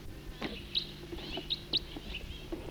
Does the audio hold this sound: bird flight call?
yes